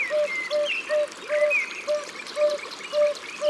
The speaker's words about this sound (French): 10 mai, 6h du matin, nous sommes au bord d'une rivière qui court entre les rochers